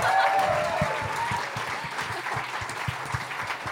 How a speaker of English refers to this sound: Thanks for coming out, Brisbane. Can we get a round of applause to everyone here at the Haya Bar?